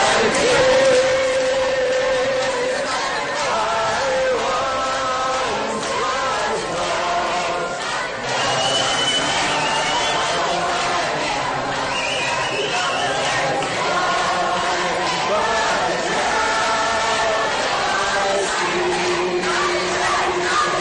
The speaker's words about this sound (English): Perhaps you could hear them screaming, God is dead in the background there as the pro-lifers were singing Amazing Grace.